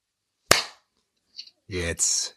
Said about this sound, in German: Darf ich nochmal kurz klatschen? Nee. Weil das hat bei mir, nicht aufgenommen.